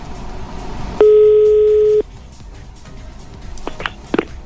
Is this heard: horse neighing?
no